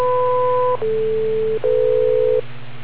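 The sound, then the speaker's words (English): Three steady electronic beeps in quick succession, each lasting under a second with tiny gaps between. The first is higher and two-toned, the next two lower. A constant low hum runs underneath. “Wait for the 3 beeps, and look out for the 90 seconds.”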